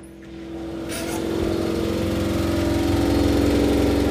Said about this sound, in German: in der Speisekammer, da ist der Teufel los in Form einer schleudernden Waschmaschine. Ich kann es euch ja gleich mal akustisch rüberbringen und nehme euch da mal kurz mit hin.